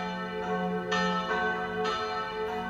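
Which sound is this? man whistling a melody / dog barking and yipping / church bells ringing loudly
church bells ringing loudly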